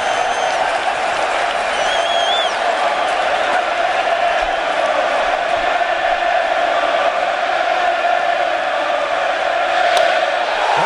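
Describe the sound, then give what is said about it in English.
A packed, standing-room-only Pittsburgh baseball stadium crowd jeers pitcher Johnny Cueto in a steady, unbroken roar of massed voices for about eleven seconds, with a few sharp whistles rising above the din early on. “Well, the standing room only crowd trying to get under Johnny Cueto's skin, and they might be.”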